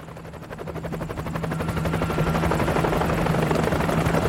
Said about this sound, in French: Et surtout, il tend l'oreille. Et il entend l'hélico qui s'approche.